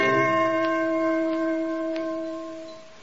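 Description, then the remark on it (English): A Chinese gong rings out after a single strike at the start of the second act of The Chinese Gong, its bright metallic hum sustaining and slowly fading over a few seconds, heard alone without any voices. “and here's the second act of The Chinese Gong.”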